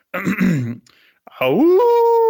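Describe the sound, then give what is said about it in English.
A person imitates a dingo howl: a short wavering vocal cry, a brief pause, then a loud voice sliding upward into a long, steady held howl. “So I've got to come up with a howl.”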